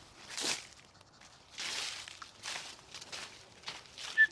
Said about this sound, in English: Oh, just before he finishes rustling through the leaves, let's eavesdrop back on the farm.